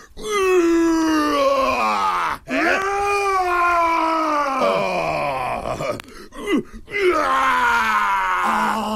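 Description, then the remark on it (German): A person imitates a roar with a long, strained, groaning vocal bellow that rises and falls in pitch, broken into three sustained bursts with brief gaps between them. “Oh, das ist ein schönes Brüllen.”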